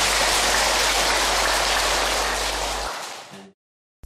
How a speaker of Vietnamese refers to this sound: Và hôm nay sư cô đã hoan hỷ nhín ít thời gian quý báu về với đạo tràng của chúng ta. Đề nghị toàn thể hội chúng chúng ta dâng cao một tràng pháo tay để đón chào sư cô.